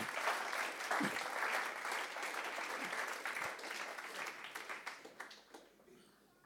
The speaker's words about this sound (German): War doch schade, wenn man das nicht gehört hätte von dir, oder? Geben wir einen herzlichen Applaus. Danke vielmals.